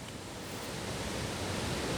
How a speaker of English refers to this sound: Quite a waterfall. Yeah, it's a lot bigger than the last time I was here.